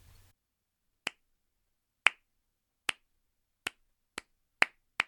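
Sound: one person clapping hands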